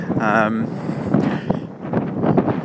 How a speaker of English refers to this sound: And hopefully you can hear me all right, because there's quite a strong wind blowing.